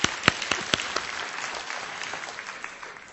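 A small audience claps together, sharp distinct claps at the start blending into a steady patter of applause that gradually thins out, moderately close and without any voices.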